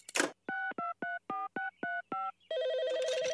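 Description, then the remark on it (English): A telephone auto-dialer, programmed with every phone number in town to call them one by one and play a message, clicks on and punches out seven quick, evenly spaced touch-tone beeps, then a loud warbling ring starts immediately, all clear with no voices. “It automatically calls them one by one and plays my message.”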